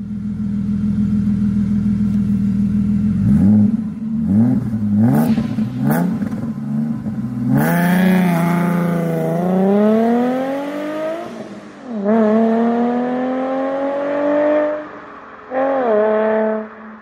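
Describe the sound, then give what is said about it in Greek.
An Alfa Romeo GTV Twin Callaway Turbo sports car engine, one of 17 built, about 230 horsepower, idles steadily, then blips several times before climbing through long, loud revs that fall back and surge again, with no talking. “Άλλο ένα αυτοκίνητο το οποίο είχα. Τώρα είχε την Αλφα Ρωμαίο. Είχα την Αλφα Ρωμαίο GTV.”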